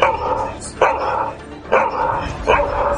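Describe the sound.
A person imitates a dog barking, letting out four loud barks at a steady, evenly spaced rhythm, each a drawn-out woof with a brief pause between.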